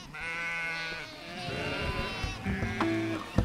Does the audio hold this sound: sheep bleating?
yes